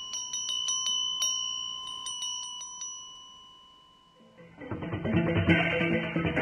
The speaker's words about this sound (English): Priests dressed all in white, men and women from the Brahmin caste, ring bells, sprinkle water, and press wet rice on the foreheads of worshippers.